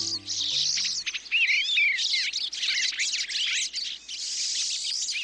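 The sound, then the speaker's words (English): Several birds chirp and twitter busily together while visiting a feeder in a backyard or local park, a dense stream of high, quick, overlapping calls and trills that stays steady and fairly loud throughout, with no talking. “The sights and sounds of birds visiting a feeder in the backyard or a local park can brighten our days during the darker months of the year.”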